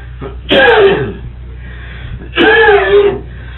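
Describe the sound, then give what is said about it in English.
Two loud, harsh coughing bursts about two seconds apart from a person who has had whooping cough for two weeks, each ending in a strained, rising whoop, over a low background hum. “Where'd you get the whooping cough?”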